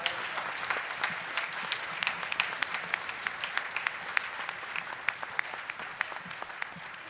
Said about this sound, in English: So one more round of applause for these wonderful students.